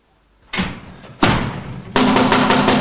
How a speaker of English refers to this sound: Holmes angrily raps his stick on the glass-paned door of Stapleton's house. An elderly manservant opens it.